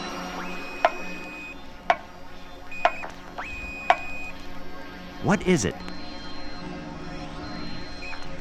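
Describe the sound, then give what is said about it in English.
A clock ticks steadily, four sharp, evenly spaced clicks about a second apart, then a voice asks a short question and the ticking falls quiet. “A clock ticking.”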